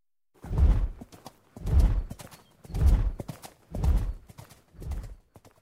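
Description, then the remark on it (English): Horse hooves clip-clop in a slow, steady rhythm, five heavy, evenly spaced hoofbeats about a second apart, fairly loud with no voices over them. “We can use this horse. Can you ride it”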